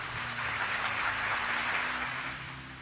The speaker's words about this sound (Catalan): Aplaudim els que ens han trucat.